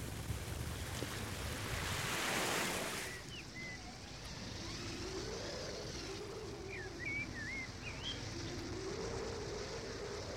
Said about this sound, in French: L'océan taraudait depuis des millions d'années le sable de la plage et la vague effaça l'empreinte de ses pas.